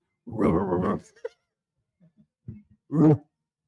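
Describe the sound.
A person imitates a dog with a drawn-out, throaty bark, then a few soft grunts and one more short, loud bark-like yelp.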